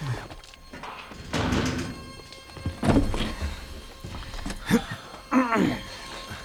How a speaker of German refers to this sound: Und nun schließt die Tür.